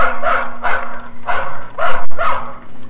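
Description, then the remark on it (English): A pull-string toy plays a recorded dog barking: about five quick, evenly spaced barks, fairly loud, with a steady low mechanical hum running underneath. “This is a dog.”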